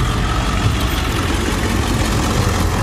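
truck engine idling

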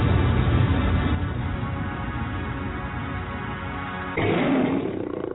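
lion roar sound effect

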